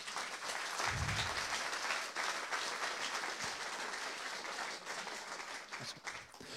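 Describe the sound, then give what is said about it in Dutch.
A crowd at a meeting applauds steadily and loudly for people being presented with flowers, dense clapping that fills the whole stretch without pause, with a brief low thump near the start and no clear talk over it. “Geef ze even een heel groot applaus.”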